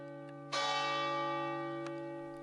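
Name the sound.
church bell tolling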